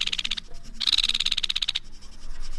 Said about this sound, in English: There are other sounds, though, that are uniquely Cuban and rarely ever heard. For example, the song of the yellow-brown woodpecker called Fernandina's Flicker.